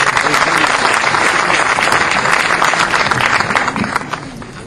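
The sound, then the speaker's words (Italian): An audience claps steadily for the head of the publishing house La Meridiana of Molfetta, a dense wash of applause that holds for several seconds before thinning out at the end. “Un applauso per la dottoressa.”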